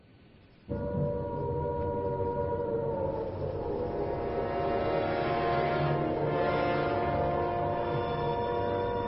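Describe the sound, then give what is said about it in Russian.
An air raid siren in Britain, sounded right after Prime Minister Neville Chamberlain announced the start of hostilities, starts abruptly after a brief quiet moment, then holds a loud, steady wail that swells slightly as it continues, with no voices present. “В Британии сирены воздушной тревоги зазвучали сразу после заявления премьер-министра Невилла Чемберлена о начале военных действий.”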